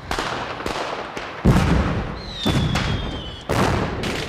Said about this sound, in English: These fireworks suck. Yeah, no. These aren't great. These are terrible sound effects. That one's called Mondo Fireworks.